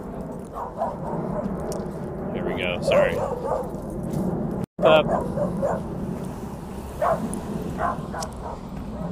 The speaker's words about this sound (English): It's a dog patrolling its yard.